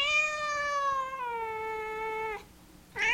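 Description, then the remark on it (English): Ahab, a five-year-old female black cat with a white nose, gives a long, drawn-out meow that slowly falls in pitch, then begins another after a brief pause. Fairly loud, with no talking. “So, my cat's name is Ahab, and she is 5 years old.”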